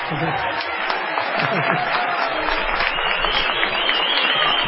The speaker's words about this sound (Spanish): Vamos a aplaudir a Felipe.